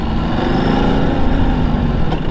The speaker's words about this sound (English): There's a funny tittle tattle from the engine which makes me, oh, what the hell was that?